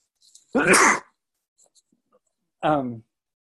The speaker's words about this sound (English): I'm gonna sneeze. I'm sorry.